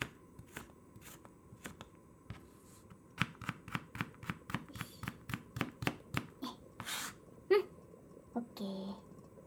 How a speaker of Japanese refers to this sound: あとは人参もみじん切りして、玉ねぎより楽ちん。